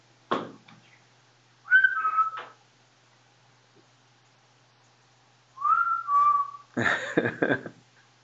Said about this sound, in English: So you whistle back and forth one another, and his whistle sounds, both of you hear the whistle, but it sounds pretty far away. But you can isolate the direction fairly well from that.